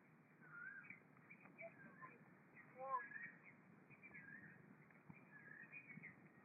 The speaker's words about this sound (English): Cuckoos are singing. I think that they are happy because you are here.